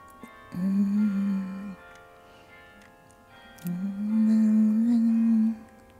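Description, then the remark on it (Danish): Carillon bells ring out two long, low notes separated by a short pause, each sustained with shimmering, layered overtones, and no one speaking. “Og så er der klokkespil.”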